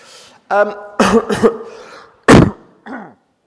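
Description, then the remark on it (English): A few loud coughs and throat-clearing bursts in quick succession, with some voiced, speech-like sounds mixed in between them. “tell you what, let me just get rid of this coughing first.”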